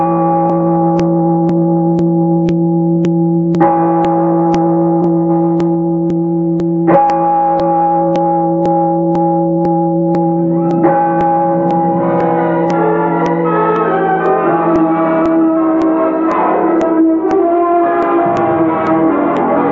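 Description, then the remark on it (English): A large church bell rings loudly in the Best Plays radio production of A Bell for Adano, struck every few seconds with each deep toll ringing on in a long humming decay, later swelling into a denser clang of overlapping tones. “Listen. It shakes the whole building.”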